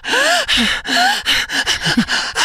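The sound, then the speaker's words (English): A voice imitates heavy, rhythmic breathing during sex, with sharp gasps and short moaning tones, repeated in quick bursts over a couple of seconds, fairly loud. “But part of why you feel so good was the breathing.”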